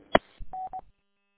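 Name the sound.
phone keypad DTMF tones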